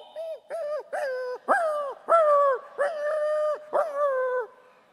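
A dog whines and whimpers in a series of about seven high, drawn-out cries, each sliding slightly downward, clear with brief gaps between them and no talking.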